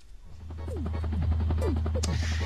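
A helicopter drones steadily with a rapid, rhythmic rotor chop, loud, building slightly in volume and holding for the whole couple of seconds.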